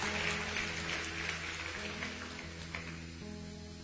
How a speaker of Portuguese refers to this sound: Uma salva de palmas a esse bom Deus. Vamos celebrar Ele.